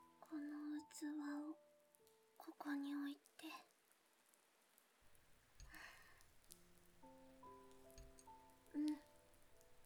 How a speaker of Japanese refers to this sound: ちょっと雨漏りしてるからね。水の音って聞いてるとなんだか落ち着くでしょ。